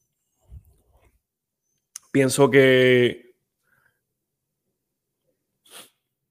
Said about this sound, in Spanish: Disculpen mi estornudo.